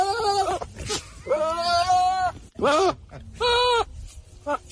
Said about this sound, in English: It does sound like Will Ferrell in distress, but it sounds like Will Ferrell going, but it's a goat with a human sounding sound, and it sounds just like Will Ferrell.